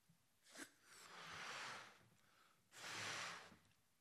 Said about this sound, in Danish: Jeg har taget en ballon med. Den vil jeg puste op.